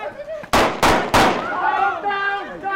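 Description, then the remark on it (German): Three sharp, loud training grenade bangs go off in quick succession during a training exercise, then voices shout in the aftermath as the echoes fade. “Auch der nächste Knall löst Konfusion aus.”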